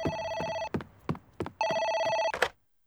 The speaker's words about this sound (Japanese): あ、電話。